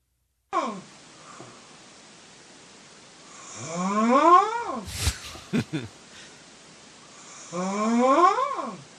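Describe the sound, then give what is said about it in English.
A goofy, exaggerated snore repeats in two cycles: a rising, nasal, whistling inhale followed by sputtering, fluttering exhales, loud with no talking. “So the first one that starts off, I believe, is a funny snore.”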